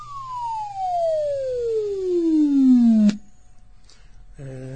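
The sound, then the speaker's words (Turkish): A steady synthetic tone, a sonified data graph (dataset 1) played by pressing F5, glides smoothly downward in pitch from left to right over about three seconds, loud and alone, then cuts off abruptly; a brief burst of speech follows near the end. “Soldan sağa doğru böyle ses düşerek gitti arkadaşlar.”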